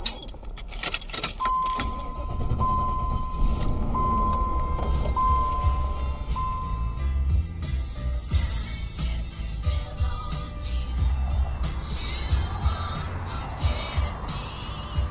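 Keys jangle at the start as a man gets into his silver hearse, followed by a steady low engine rumble as the hearse runs continuously and drives off, with faint clinks and shifting road noise over it.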